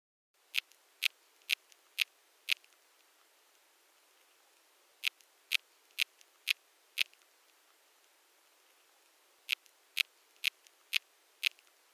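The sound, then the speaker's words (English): Field recording of bark beetle chirps: sharp, high clicking pulses arriving in three bursts of about five evenly spaced chirps each, separated by short pauses, over a faint hiss with no talking. “And here are the beetle chirps.”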